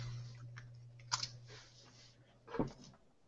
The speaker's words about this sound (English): Okay, I'm just writing my numbers down here.